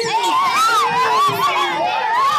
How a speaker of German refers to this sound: Also, ich drücke mal auf den Knopf. Was passiert? Wir sind jetzt im Wilden Westen. Hört ihr die Cowboys?